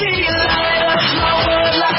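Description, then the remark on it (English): A group of girls screams together in reaction to hearing news, a loud, sustained burst of high-pitched shrieking that lasts about two seconds, with several voices overlapping and no clear words. “Quite a few people, including many girls, screamed when they heard the news.”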